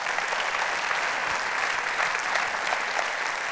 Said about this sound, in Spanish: Y mis hermanos, den un aplauso a Dios que Él se lo merece.